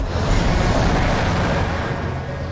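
A large city bus roars by just inches from the curb on a busy city street with pedestrians, a loud, heavy rumble of engine and road noise that fills the moment and fades slightly as it goes.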